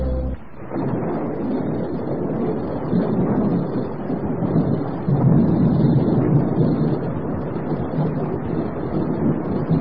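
Heavy rain pours steadily and loudly for the whole stretch, with a deep rumbling roar beneath it that swells about halfway through, like a storm. No voices.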